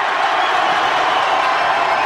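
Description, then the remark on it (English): A loud, sustained roar from a large indoor basketball arena crowd, the Skiers' fans cheering steadily and evenly with no breaks as their team closes within three points and Englewood calls a timeout, filling the space with dense, echoing noise. “Listen to the Skier crowd. Now they're seeing some life in the team.”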